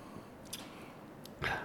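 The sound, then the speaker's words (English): A quick, breathy sniff of Jameson whiskey from a glass arrives near the end, after a quiet stretch broken only by a couple of faint, brief rustles. “One more sniff.”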